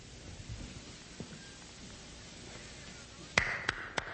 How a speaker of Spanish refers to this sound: Esa tarde estaba yo en plena montaña cuando me sorprendió una tremenda tormenta de nieve.